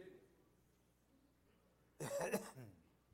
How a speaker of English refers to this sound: You'll excuse me. I'll apologize in advance. Every once in a while, I'll have to stop and maybe clear my throat. I've got a frog that lives down there, and every once in a while he kicks around, and I have to stop and kind of move him out of the way.